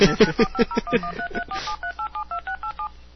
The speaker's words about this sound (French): Et ça, c'est un numéro de téléphone.